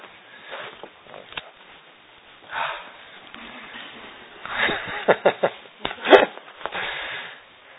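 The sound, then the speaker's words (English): Breathy sniffing of scented pens in short bursts, with a cluster of quick, sharp sniffs near the end after softer intermittent inhales, with no talking. “You can also very easily get the end of your nose covered if you're sniffing them.”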